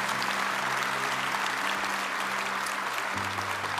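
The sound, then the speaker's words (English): A crowd applauds the people who have just prayed for salvation, a steady, dense wash of many hands clapping at an even loudness throughout, with a low sustained hum underneath and no voices standing out. “Let's applaud these folks.”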